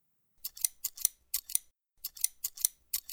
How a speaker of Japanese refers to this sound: 乳首のところだけ、ハサミで切ってみるか？